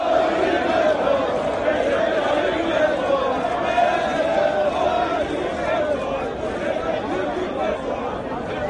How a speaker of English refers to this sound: Cheering supporters of Turkish President Recep Tayyip Erdogan took to the streets in Ankara this week as his Justice and Development Party, AKP, defied almost all predictions and polls to win back a parliamentary majority it lost last June.